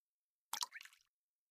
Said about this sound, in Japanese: 水面に足が浸かる。